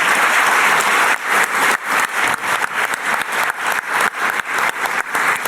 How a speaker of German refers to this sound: Schön, dass Sie hier sind. Ein Applaus für Sie.